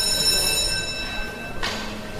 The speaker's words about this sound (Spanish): Y mientras continuaban las explicaciones, de repente suena el teléfono y hay una emergencia.